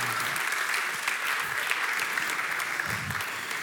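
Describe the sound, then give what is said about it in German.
A crowd claps steadily, a dense wash of many hands overlapping at a constant loudness for a few seconds, with no voices standing out. “Ein Applaus für euch, dass es denn so gut am besten kommt.”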